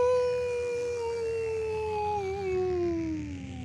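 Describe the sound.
A long, sustained howl glides slowly downward in pitch, loud, held steadily for several seconds over a low rumbling background with no talking.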